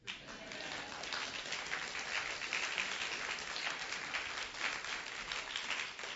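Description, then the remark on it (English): Steady applause from a crowd, a dense continuous patter of many hands clapping at once, sustained evenly for several seconds at a moderate level with no voices. “I don't hear the clap here.”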